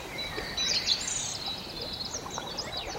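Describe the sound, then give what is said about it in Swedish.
Quick chirps and whistled calls of Eurasian woodcocks, common snipes and black woodpeckers, among other birds, repeated in a busy series over a steady outdoor hiss, with no talking. “Och här var bland annat skogsnäpporna och enkelbeckasinerna och spillkråkor.”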